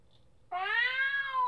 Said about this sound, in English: A cat was crying. Someone was weeping. Who was it? The cat or perhaps something else?